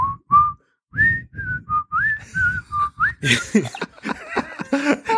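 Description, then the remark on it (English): A person whistles a short, bouncy tune of quick repeated notes, imitating an enemy signal whistle from a video game, then breaks into laughter and chatter at the end. “I'm trying to think of a more stupid whistle I could do.”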